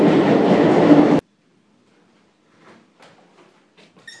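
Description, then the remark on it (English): A loud roar of a metro train to Saint-Georges running along the rails fills the first second, then cuts off abruptly, leaving faint scattered clicks and light taps in near silence. “On the metro to Saint-Georges.”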